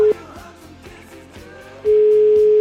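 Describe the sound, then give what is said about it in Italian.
A loud, steady telephone dial tone of an outgoing call placed on Radio 24 to former rugby player Lo Cicero hums briefly, gives way to a stretch of muffled music-like noise, then returns and holds unbroken to the end. No one speaks. “Telefono, vai.”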